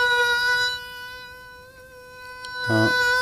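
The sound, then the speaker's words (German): A steady, high-pitched droning whine, like a buzzing mosquito, holds for about three seconds with a brief louder burst near the end, made by a human voice imitating a mosquito. “Mücken. Mücken sind unglaublich nervige Flieger. Wenn die dir in der Nacht”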